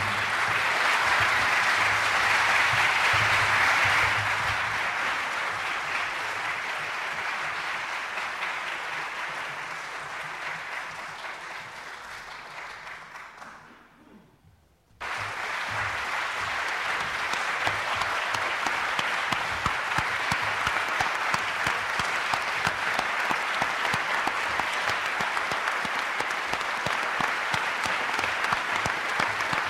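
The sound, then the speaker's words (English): Sustained audience applause for the San Francisco Eight, who appeared together at the microphone: a dense wash of many hands clapping that fades briefly, drops out for a moment, then swells back and continues steadily. “That last round of applause was for the San Francisco Eight, who appeared together at the microphone.”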